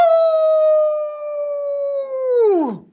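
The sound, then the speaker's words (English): A person imitates a werewolf howl, holding one loud, steady, sustained note for over two seconds before the pitch drops sharply and trails off at the end. “So it's going to be my old dog werewolf howl.”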